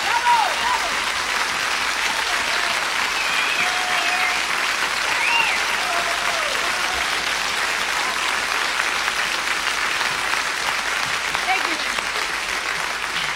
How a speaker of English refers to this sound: I like to share your wonderful applause with the ladies and gentlemen of this magnificent orchestra. Thank you very much.